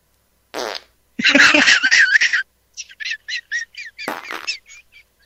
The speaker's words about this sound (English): We are now in a fart intermission.